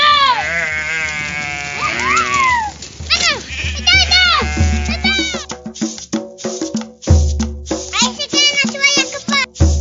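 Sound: sheep and goats bleating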